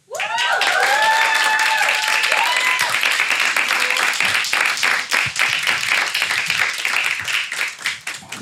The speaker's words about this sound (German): Also macht mal einen großen Applaus, denn heute öffnen wir unsere Clubtür für Levi Pennell und seinen Bruder Oliver Pennell.